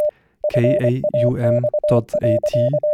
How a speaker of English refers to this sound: This is a transmission of an encoded digital picture over a civil terrestrial radio network, a radio fax. You can decode it using your computer.